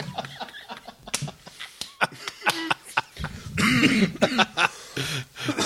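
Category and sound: human body sound, coughing fit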